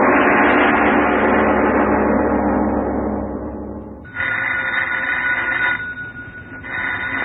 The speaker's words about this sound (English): answer the phone, please.